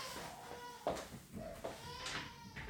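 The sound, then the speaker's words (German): A baby screams loudly in muffled bursts, several short cries rising and falling over a quiet background. “Ja, also das fehlt noch, ne, dass mir hier das Baby in meinen Podcast reinbrüllt.”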